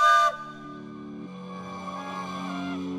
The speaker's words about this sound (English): A train whistle screamed inside the church.